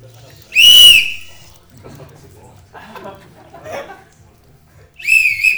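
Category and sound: signal or alarm, referee whistle blown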